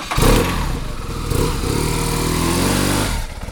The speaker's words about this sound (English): Until today, he drove a chic black and white police grade BMW R1200 motorcycle.